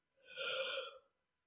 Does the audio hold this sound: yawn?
yes